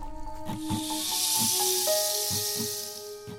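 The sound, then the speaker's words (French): A steady, airy hiss of rustling leaves, broken by soft irregular thumps and crackles as a hedgehog shuffles through by a hedge under a streetlamp, with a faint constant hum underneath and no voices. “C'était donc lui qui remuait les feuilles.”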